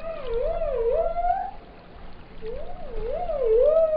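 Dolphin whistles: two bursts of warbling, wavering tones that repeatedly rise and fall in pitch, separated by a brief pause, over a steady low underwater rumble.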